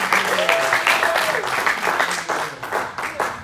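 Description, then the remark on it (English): A church audience claps steadily for the Lord in a dense applause, while a voice lets out a sustained shout near the start and scattered vocal cheers mix in underneath. “So, you know, I think we should give the Lord like a hand clap, a shout, like, come on!”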